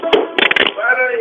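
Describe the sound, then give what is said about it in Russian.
Musical instruments topple over: a sharp crash, then a quick cluster of clattering knocks and thumps, followed by a faint ringing tone that fades out. “Сережа, у вас упали инструменты”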